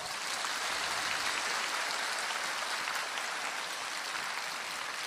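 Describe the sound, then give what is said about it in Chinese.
A crowd applauds steadily for about five seconds, many hands clapping in a dense, continuous wash of sound at even loudness, with no one speaking over it. “啊，你鼓掌是这么鼓的？”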